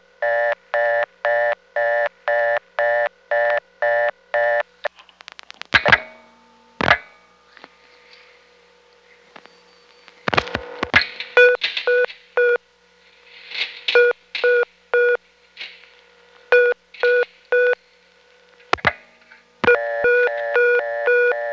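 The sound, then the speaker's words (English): Telephone test-line tones while testing a payphone's coin relay speed by dialing a 5: a rapid series of evenly spaced, harmonically rich beeps indicating how long the coin took to return, then dial clicks and scattered tone bursts, ending in a new run of quick beeps. No one speaks. “The three beeps were an indication of how long it took to return the coin, which it detected by the fact that the ground goes off the tip once the coin is out.”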